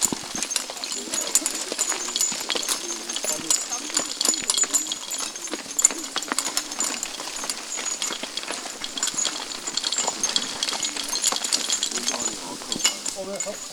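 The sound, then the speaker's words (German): Two horses haul a felled tree trunk up to a path outdoors, with a steady run of irregular clinks, knocks and scraping thuds and a constant rustling noise beneath, continuous throughout. “Sehen wir also hier, wie die beiden Pferde den gefällten Baumstamm hochziehen zum Weg.”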